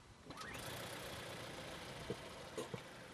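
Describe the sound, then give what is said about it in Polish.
A car engine cranks and catches, its pitch briefly rising before settling into a soft, steady idle, with a few faint clicks and knocks near the end. No one speaks. “No i silniczek zapracował, słyszeli państwo, delikatniutko.”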